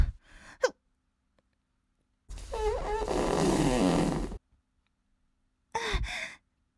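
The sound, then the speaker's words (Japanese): A long, loud, sputtering fart with a wavering pitch lasts about two seconds, bracketed by short breathy sighs or gasps from a voice before and after. “まだまだおなら出るからね。”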